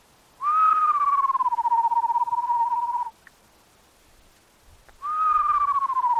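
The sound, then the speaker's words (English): At 5:30 a.m. on a dirt road outside Essex, Massachusetts, a birding team captain whistles a screech owl imitation: a long, steady wavering whistle of nearly three seconds, a pause of quiet, then a second whistle beginning, clear with no talking. “mimics the distinctive whistle of the screech owl, hoping to hear an answering cry from the nearby pines.”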